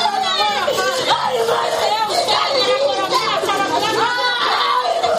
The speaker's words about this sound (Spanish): Este es el sonido que se podía escuchar hoy a 25 kilómetros de Tegucigalpa, en el Centro Femenino de Adaptación Social. El llanto desesperado de los familiares de las víctimas, muchas ni siquiera se sabe si han muerto, pero se ponen en lo peor.